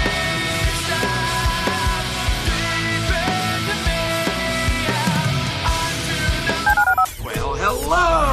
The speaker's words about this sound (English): Dial the phone.